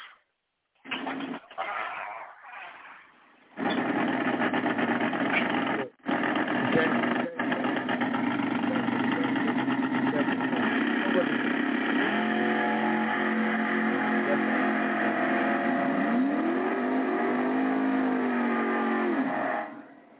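A racing car engine in a video game drones loudly and steadily for about sixteen seconds, its pitch climbing and dropping in repeated revs near the end, with a thin, tinny, game-like quality after a few brief sounds at the start.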